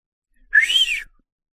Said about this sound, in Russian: Слышен свист.